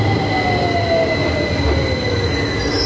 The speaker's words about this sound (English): Crowded underground train system, the Tube is planning for a 25% increase in passengers during the Olympics. The nearly 150-year-old system is prone to breakdowns